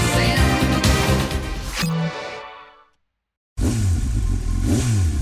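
A loud motorcycle engine revs hard, fades and cuts to a brief silence, then roars back with its pitch sweeping up and down in quick throttle blips.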